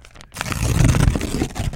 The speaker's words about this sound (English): The only problem is I only have one piece of paper in here, and I'm going to need it later, but I'll go with it anyway. Paper, yes. Doesn't that sound good on FM? That's a sack. And tearing paper, too?